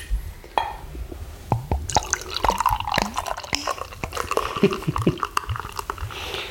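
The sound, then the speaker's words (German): Beer pours into a glass, a busy run of gurgling, splashing and dripping liquid with fizzy bubbling, steady for several seconds with no talking. “Ich trinke jetzt ein Bier.”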